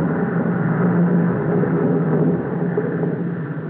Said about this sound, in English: You see, this airport is on the Netherlands routes between Europe and Java. Ah, there comes a passenger plane, all the way from Holland.